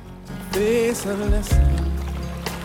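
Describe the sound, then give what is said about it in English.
Oars splash and water sloshes as Sam rows his boat, laden with onions, along a river, with a couple of deeper thumps midway and soft tonal music playing underneath. “Sam's rowing his boat on the river, laden with onions.”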